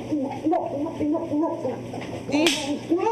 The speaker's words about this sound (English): Oh, with a slap.